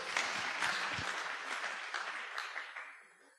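Audience applause, a dense wash of many hands clapping at a steady moderate volume, then thinning and fading out toward the end. No voices are heard.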